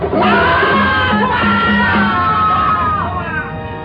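A large crowd shouts and yells together in a loud, continuous roar of many overlapping voices, with raised cries rising and falling throughout, as the townspeople of Jimo shout while their soldiers attack the Yan army.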